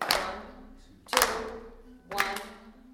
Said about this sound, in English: Let's just clap the rhythm there in a slow three, right? It's starting at 109. I'll give you one full measure for nothing. 1, 2, 3.